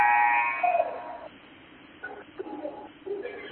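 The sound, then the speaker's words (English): A basketball game horn sounds for a substitution as Evangel goes to the bench, a loud, buzzy, sustained blast of about a second, then cuts off, leaving quieter, scattered crowd-like noises and murmurs. “Evangel, as you hear the horn in the background, going to the bench.”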